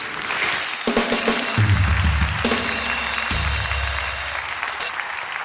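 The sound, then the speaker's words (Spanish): A show audience applauds for a woman among them, a dense, even wash of clapping that holds at a constant loudness for about five seconds, with some low tonal rumbling underneath. “Un aplauso para ella.”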